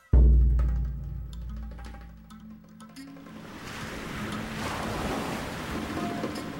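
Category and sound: nature, ocean waves breaking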